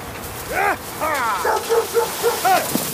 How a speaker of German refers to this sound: Nur das leise, dumpfe Schleifen von Holz auf Schnee und ein schwaches Bellen lassen vermuten, dass hier vier Menschen und drei Dutzend Hunde ganz langsam nach Süden trotten.